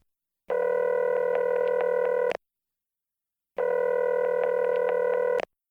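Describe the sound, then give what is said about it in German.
Two long, steady telephone ringback tones, each about two seconds with a pause between, clear, as a phone line rings before an answering machine picks up. “Sie hören jetzt eine telefonische Einladung.”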